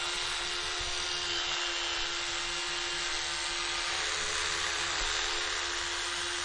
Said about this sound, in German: Also ich putze meine Zähne noch mit der Hand. Ich nehme die elektrische.